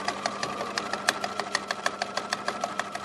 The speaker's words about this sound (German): Nähmaschine.